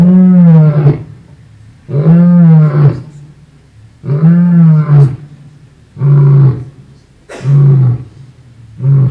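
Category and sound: animal, lion roaring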